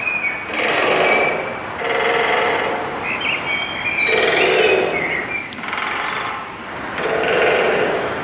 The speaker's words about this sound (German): So, also die Anwohner fühlen sich richtig gestört von der Nummer. Auf jeden Fall eine Spechtfamilie. Ja. Wo weißt du das denn? Hört man das so raus? Nee, ich dachte zuerst an Presslufthammer.